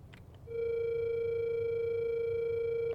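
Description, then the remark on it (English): A phone call to Bobby rings out over a speakerphone as one long, steady electronic tone at a mid pitch, holding for about two and a half seconds above a low background rumble, with no one talking. “Grab my phone and call Bobby.”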